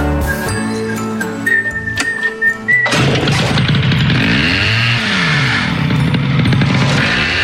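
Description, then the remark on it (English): After a few seconds of ringing tonal sounds, a chainsaw roars in loud, its engine pitch swooping up and down as it saws through a wooden newel post. “He's walking around with a hat on and a chainsaw. He's just sawed off.”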